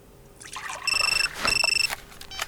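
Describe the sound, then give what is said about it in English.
Water pours and trickles steadily into a cup as tea is made at a police station at night, a soft splashing hiss, while two short bursts of a high, warbling electronic phone ring sound over it. “She's making a cup of tea when she receives a phone call.”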